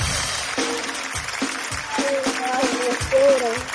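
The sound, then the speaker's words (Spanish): Audience applause fills the space with steady, dense clapping for several seconds, mixed with scattered voices and a few brief cheers or whistles rising over it. “Un fuerte aplauso para mi amiguito. Un fuerte aplauso.”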